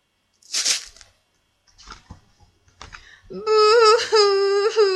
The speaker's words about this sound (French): Sniff. C'est qui pleure?